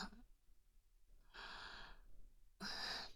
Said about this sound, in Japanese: 息がかかっている。気になって眠れ。 耳は生物にとって敏感な部分なんだぞ。そこに向かって熱い吐息を吹きかけるとは。